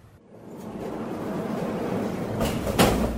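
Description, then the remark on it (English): Doors are flung open with a low rolling rumble that builds steadily, then two sharp knocking bangs near the end as they hit their stops. No one speaks. “Throw open the doors and they're all bunched up at the end like a crowd at an imminent massacre,”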